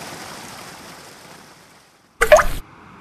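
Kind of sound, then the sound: nature, sea water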